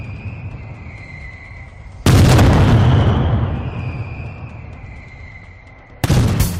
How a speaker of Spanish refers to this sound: se celebra la mascletá, un disparo pirotécnico de varios minutos de duración, perteneciente a las fiestas de la Falla y que congrega a miles de personas para disfrutar de sus acompasados truenos y de las vibraciones del cuerpo.